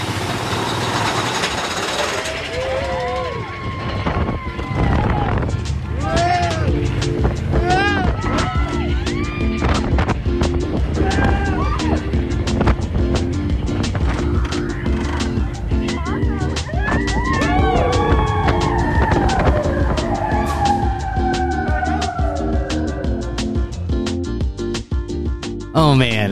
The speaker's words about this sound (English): Okay, you're listening to me and my friends on Big Thunder Mountain. We're about to go down the first drop.